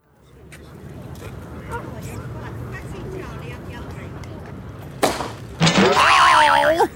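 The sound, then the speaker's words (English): A cricket ball smashes into something in Hyde Park with a sharp crash, followed by a louder impact and a wobbling, cartoonish wail, cutting through a steady murmur of outdoor background noise. “What's that, Cat? It's a cricket ball!”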